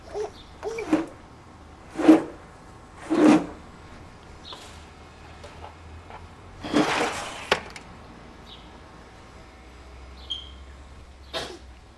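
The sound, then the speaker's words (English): Several short, sharp sneezes burst out one after another with brief pauses, the strongest and longest coming late, followed by a few faint snuffly sounds and no talking. “Bless you.”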